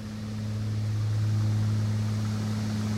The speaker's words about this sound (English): It's terribly noisy at the moment because we're sitting in a wonderful old six-seater Cessna aeroplane. There's the three of us in the plane, plus the pilot, and a couple who I assume must live on the island with their baby.